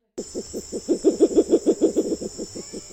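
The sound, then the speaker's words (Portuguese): A spectacled owl (murucututu), one of the largest owls in Brazil, calls: a quick run of about fourteen low, hollow pulsing hoots that swell louder in the middle and then fade, alone over a faint steady hiss. “Uma das maiores corujas do Brasil.”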